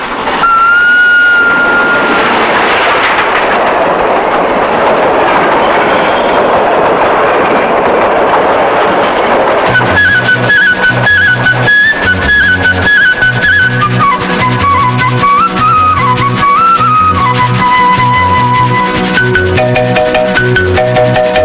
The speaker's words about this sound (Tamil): பேசாம வண்டிய ஓரமா நிறுத்திவிட்டு ரயில் வருது, வேடிக்கை பாத்துட்டு போ.